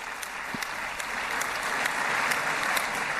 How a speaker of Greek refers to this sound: Νέο χειροκρότημα για τον Αμερικανό πρόεδρο.